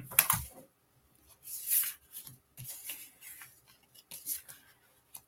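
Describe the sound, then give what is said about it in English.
Papery riffling and flicking of playing cards being shuffled, heard in several short, crisp bursts with brief pauses between, fairly quiet, with no voices. “That we need to shuffle these a little more.”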